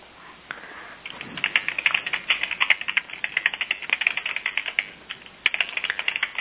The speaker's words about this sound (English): Oh, you're typing. Okay, good. Yeah, I'm trying to type it.